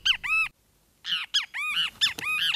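A great kiskadee, a small yellow-bellied bird with black stripes around its eyes, sings its daytime song loudly, a series of bright, arching whistled notes in quick bursts with a short pause before the rapid repeated phrases resume.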